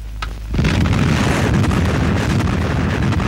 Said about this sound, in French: Vous vivez dans le blockhouse de la mise à feu, la minute solennelle de la première explosion atomique française.